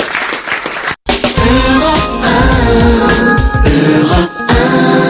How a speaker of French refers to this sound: Au revoir à tous les deux, on vous applaudit.